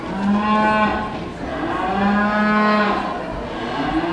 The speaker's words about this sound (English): He was thrilled to step into Coshocton County's show ring beside a cow way bigger than he is.